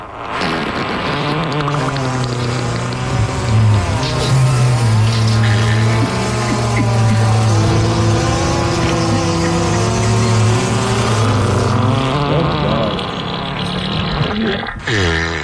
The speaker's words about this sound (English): birthday today with a fart montage